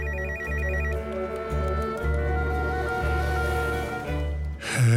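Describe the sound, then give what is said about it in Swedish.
A telephone rings with an electronic warbling tone over a steady musical bed, the ring bursts giving way to sustained tones, ending with a brief noisy swell. “Då ringer Sveriges Television.”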